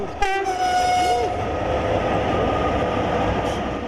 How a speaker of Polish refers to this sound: To była ruina tutaj, ale był taki fakt, że przejeżdżające obok pociągi zawsze dawały sygnał.